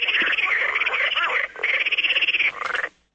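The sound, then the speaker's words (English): A toilet alarm sounds with a loud, raspy, croaking buzz in three bursts: a long one, a second nearly as long, then a short final burst before it cuts off. No one speaks. “Don't hang up on me when I'm trying to explain the toilet alarm.”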